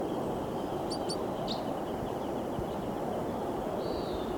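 bird, crossbill calling

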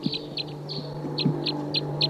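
bird, wild birds calling

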